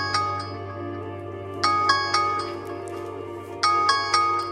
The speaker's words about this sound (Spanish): Una alarma que suena.